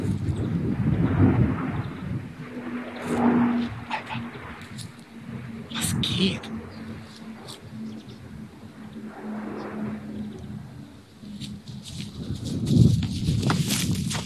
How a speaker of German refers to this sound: Auch wenn der Donnervogel, den ziehen wir uns jetzt noch rein, hier viel zu nah über dem Himmel rüber brettert, ungefähr so auf, ich würde sagen, 100 Meter Höhe, brettert hier gerade ein Militärflugzeug rüber. Hört's euch an.